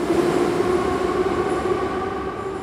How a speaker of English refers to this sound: But now the metro trains are running again. Commuters and families dart in and out of the aging rail cars.